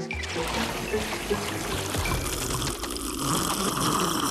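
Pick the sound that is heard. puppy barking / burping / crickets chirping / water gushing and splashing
water gushing and splashing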